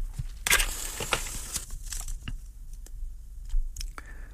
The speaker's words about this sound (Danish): Og nu tænder jeg lige sådan et stykke cedertræ, for det her, det er en meget fin cigar, jeg skal tænde i dag. Så det skal gøres med manier.